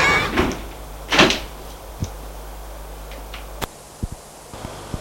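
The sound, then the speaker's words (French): A woman shuts a door behind a boy with a short, solid knock, preceded by a couple of scraping, rustling movements and followed by a few faint taps. No one speaks. “Et la femme ferme la porte derrière lui.”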